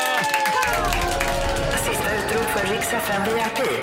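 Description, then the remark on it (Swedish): A short burst of applause from a small group, steady clapping mixed with lively voices and chatter throughout, moderately loud. “En liten applåd igen, tycker jag.”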